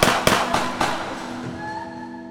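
Four sharp gunshots fire in quick, evenly spaced succession, each a loud crack with a short echo, followed by a fading ringing tail and no voices; two men fire on people from a carport in the parking lot outside an apartment.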